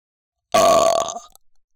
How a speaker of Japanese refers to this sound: よーん。お下品なゲップ、しちゃった？もっかい行きまーす。